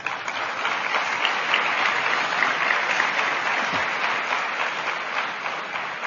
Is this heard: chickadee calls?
no